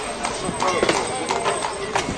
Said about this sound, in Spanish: Y que en ese Albacete los carros, los caballos, las mulas eran el sonido más habitual de sus calles.